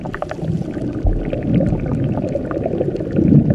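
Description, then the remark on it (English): Dense, churning water noise of a boiling river heated by fault-fed hot springs, with steady bubbling and gurgling, a continuous roar of agitated liquid with occasional low surges and no voices. “So, why does the river boil?”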